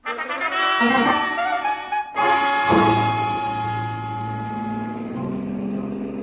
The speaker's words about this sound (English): The way we took off in Corey's Nash, I wasn't sure whether her license was for driving a car or an airplane.